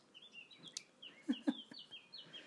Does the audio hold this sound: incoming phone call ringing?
no